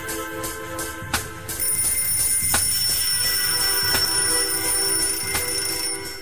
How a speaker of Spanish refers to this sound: 8 de la mañana. Suena el despertador.